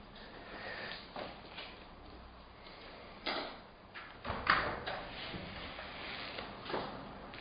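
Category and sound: household object, door being opened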